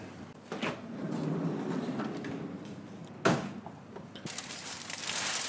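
A large flat drawer slides open with a sustained rumbling scrape, punctuated by a sharp knock midway and a rustle of paper toward the end, as a large-format ink drawing is pulled out of it, with no talking.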